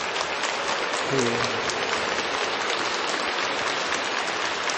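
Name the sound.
audience applause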